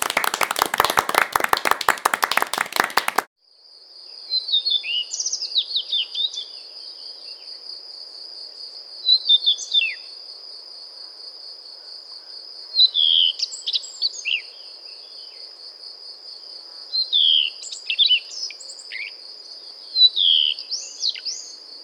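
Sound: redstart song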